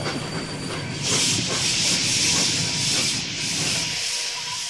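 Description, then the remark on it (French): A train grinds to a sudden emergency stop after someone pulls the alarm signal: a low rumbling clatter swells into a loud, sustained hiss of steam that pulses for a few seconds, then the hiss fades, leaving a dull rumble. “Quelqu'un a tiré le signal d'alarme.”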